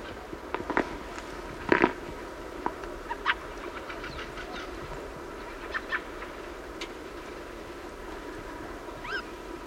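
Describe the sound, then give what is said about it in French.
A flock of nearly a hundred thrushes gives scattered, short calls at irregular intervals, some overlapping, over a steady low background hiss. “Un bouvray qui chantait, des grives, une bande de grives, un grand corbeau, c'est fabuleux là.”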